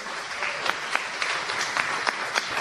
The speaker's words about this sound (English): Right, so give her a wee round of applause.